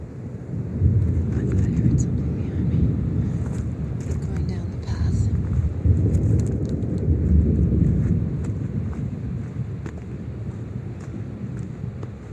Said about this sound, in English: Hear the river.